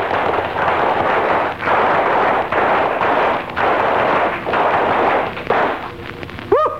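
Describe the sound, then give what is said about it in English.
Loud, dense applause from Boy Scouts in a quiz show's audience in Springfield rolls on in several surging waves with brief dips between them, then fades near the end as a short high-pitched whoop cuts through. “Ladies and gentlemen, that was a Class A applause from the Boy Scouts in our audience here tonight.”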